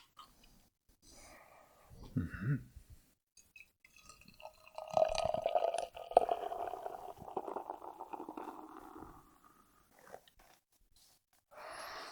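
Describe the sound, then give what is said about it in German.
A bottle of bitter is opened with a brief low rustle and clink, then the bitter pours steadily into a glass for several seconds, gurgling and trickling before tapering into a few drips. “So, ich mach's einfach mal auf.”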